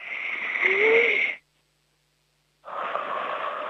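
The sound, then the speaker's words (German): Two people draw in a loud deep breath together, a brief silent pause, then a long breathy exhale, with no talking. “Wir atmen jetzt nochmal gemeinsam kräftig durch.”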